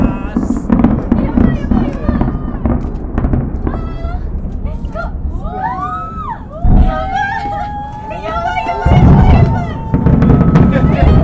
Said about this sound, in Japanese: はい、それではちょ花火ちょっと聞いてみていただきましょうか。花火の音。 そうですね。 そうですね。じゃあこちらが花火になります。どうぞ。